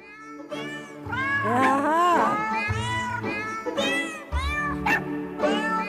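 Cat meows pitched into a melody, sung one after another over a steady backing beat, forming a bouncy tune. Loud and continuous with no talking.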